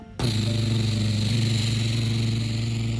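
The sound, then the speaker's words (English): A Spy Kids helicopter zooming over mountains and dumping water onto a volcano roars in abruptly and holds a loud, steady mechanical drone with a low throbbing hum and a high whine, continuing for about three seconds with no talking. “As the helicopter zoomed over the mountains, right over the bad guys, they started to dump all ton of water on top of the volcano.”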